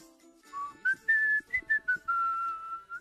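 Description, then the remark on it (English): A person whistles a short, lilting tune of several pitched notes during a radio broadcast, some clipped and some held, ending on a long sustained tone, clear with no talking. “Are you allowed to whistle on the radio? Do people do that? You just did.”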